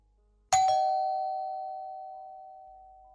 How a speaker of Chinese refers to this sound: 门铃突然响了起来